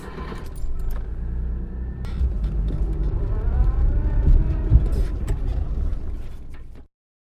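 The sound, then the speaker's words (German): A car engine rumbles steadily, with faint clinks and rattles over it, rising slightly as a bank employee drives the car into the bank's own underground garage, then cutting off abruptly near the end. “Wenig später fährt ein Mitarbeiter der Bank den Wagen in die hauseigene Tiefgarage.”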